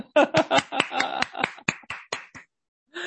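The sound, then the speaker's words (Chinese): A brief round of applause from a few people: a dozen or so sharp, loud claps in an uneven rhythm that thins out and stops after about two and a half seconds. “也就是说呢你在这个祷告的课你毕业啦，恭喜大家，给自己一个掌声好不好？”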